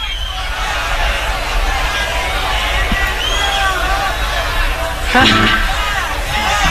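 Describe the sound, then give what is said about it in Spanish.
A large audience in the live Woodstock recording applauds and cheers as the performer greets them, in a dense, continuous roar of clapping and voices, holding steady throughout, with a louder swell of shouting near the end. “Aquí está como saludando, la gente aplaudiendo.”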